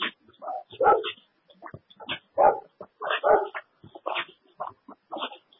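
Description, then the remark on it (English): A dog barks and yips in a rapid, irregular string of short, loud bursts, with brief whiny notes mixed in and no one talking. “Come after me, dog? Don't even think about it. Don't even think about it, dog.”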